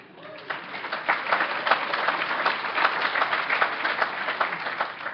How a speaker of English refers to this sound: I want to make you an absolute guarantee that any of those applause belong to her and not me.